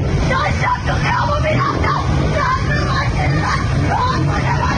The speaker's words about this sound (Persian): روزی که با اعتصاب کسبه لاله‌زار و شعارهایشان آغاز شد. لاله‌زار و با فریادهای خشمگین زنان بر مأموران یگان ویژه ادامه پیدا کرد.